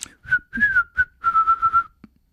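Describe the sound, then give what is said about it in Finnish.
A person whistles a short, bright melody with several clear notes in a bouncy rhythm, some held and gliding slightly, accompanied by soft tapping or clicking underneath. “Vihellyskin tulee suusta, tai tarkemmin ajatellen huulista.”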